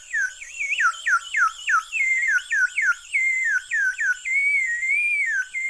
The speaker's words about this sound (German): Oder auch Vogelpfeifen.